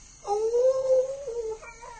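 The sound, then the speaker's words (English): A jackal, Tabaqui in a dramatization of Rudyard Kipling's The Jungle Book, hunting at night, lets out a long, drawn-out howl that rises slightly, holds and then trails off, followed by a shorter wavering cry, heard clearly with no talking. “Tabaqui the jackal is hunting tonight.”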